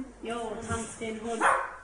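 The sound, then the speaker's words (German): A sixth-grade schoolchild's voice imitates a small dog, a dachshund, barking, giving three or four quick, high 'wow-wow' yaps in a row, moderately loud. “Mach uns den Hund.”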